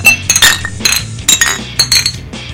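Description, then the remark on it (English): Beer bottles clink together in a toast, a quick irregular series of bright, ringing glassy knocks, with no talking over them. “So we're going to play a couple songs, we're going to crack on them, we're going to drink a little beer. Cheers.”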